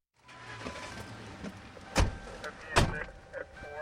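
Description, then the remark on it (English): The door of a blue and white police squad car outside Central Precinct downtown is handled with two sharp thumps over a steady low engine hum, with faint mechanical whirring and clicks as the car gets ready to move; the officer switches on an automatic license plate reader and starts driving. “Officer Garrett Dow climbs into his blue and white squad car outside Central Precinct in downtown.”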